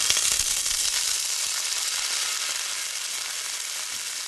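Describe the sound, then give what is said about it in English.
A steady, bright sizzle of garlic and dried red chili flakes frying in a wide pan, with dense crackling hiss that stays fairly even for a few seconds, a few sharper pops near the start, no voices. “And the very last thing I'm putting in are the red chili flakes, that dried red pepper that gives it both a really nice tawny color finish and also gives it that bite.”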